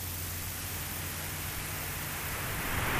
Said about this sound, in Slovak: Vy, ktorí ste v obokom spánku, vnímate teraz hukot mora?